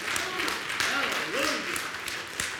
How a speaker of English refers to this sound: Can you give him a hand clap of praise today?